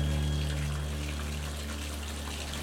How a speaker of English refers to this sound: Water trickles down from a waterfall faucet as Bree brushes her teeth.